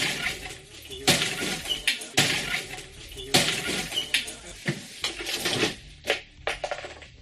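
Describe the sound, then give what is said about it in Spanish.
Window glass of a tourist flat in central Madrid being smashed on 21 February as Madrid Municipal Police officers enter, with a series of sharp crashes followed by tinkling shards, repeating irregularly over several seconds. “Es el sonido de los cristales de la ventana de uno de los pisos turísticos ubicados en pleno centro.”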